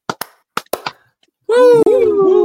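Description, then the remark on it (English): A quick series of sharp, crisp hand claps in two small bursts, followed by a loud, sustained Ric Flair-style shouted "woooo" from a voice that slides downward in pitch. “Until then, two claps and Ric Flair, and a let's go Blue Jays, boys.”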